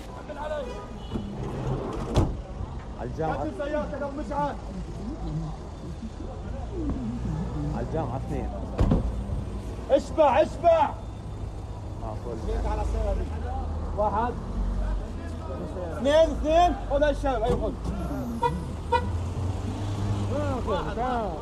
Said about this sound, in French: Évidemment, tous les étudiants n'ont pas de voiture, alors souvent c'est en service qu'ils s'y rendent. Ce sont des minivans orange qui annoncent leur destination.